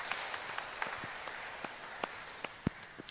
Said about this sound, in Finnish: Annetaan heille aplodit.